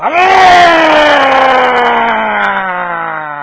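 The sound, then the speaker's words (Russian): A single loud, drawn-out vocal wail imitated by a voice, starting high and sliding slowly downward in pitch over a few seconds, strained and anguished, with no other sounds around it. “И тут ты слышишь снаружи вопль такой.”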